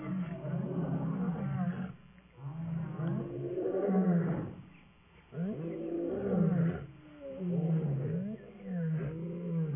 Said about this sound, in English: Can you play that clip? I want you to hear what African lions sound like. Seeing that we sang about the roar of the lion.